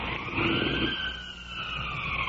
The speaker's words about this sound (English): In the distance, the ambulance.